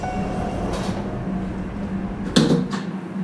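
Steady rumble of a train interior, then a sharp, solid thump around two-thirds through as a door slides shut, followed by a quieter clack and the ongoing hum.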